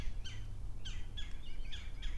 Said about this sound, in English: Oh, I hear something else up here further. There might be a hawk or something further upstream. Is that what these birds are yapping about? Is this what they're scranking their scronkle about?